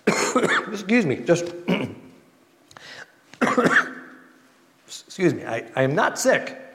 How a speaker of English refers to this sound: I am not sick. I've convinced myself of that, but I have a little bit of cough every time I get up here to talk.